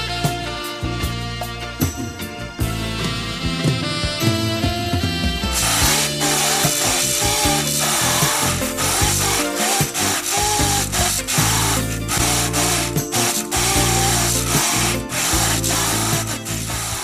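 tool, chainsaw

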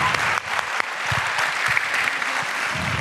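crowd, applause

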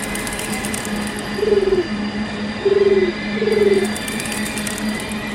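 bird, pigeon cooing

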